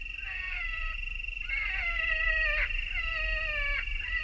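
A recorded wounded rabbit distress call plays from a pickup truck while young men hunt coyotes in fading evening light. A shrill, wavering squeal repeats in a series of high, quavering cries that bend and slide in pitch, over a low rumbling background hum.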